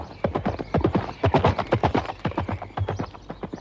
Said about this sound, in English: Dennis Moore, Dennis Moore, galloping through the sward. Dennis Moore, Dennis Moore, and his horse Concord.